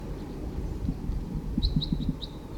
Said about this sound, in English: The recording, I hear some crossbills flying over now.